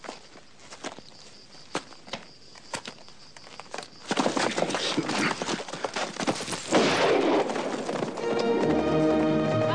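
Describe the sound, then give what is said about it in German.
Hooves clatter in a quick, uneven rhythm as a black horse gallops away, the beats growing busier and louder into a rushing wash of noise, with a tonal hum rising near the end. No one speaks. “Auf seinem Satansrappen.”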